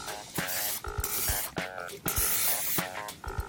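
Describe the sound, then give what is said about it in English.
Cooking spray hisses onto a waffle iron in several short bursts, each a sharp airy rush with a faint whistling edge, repeating steadily for a few seconds. “And what we're going to do is give that a little spray for us,”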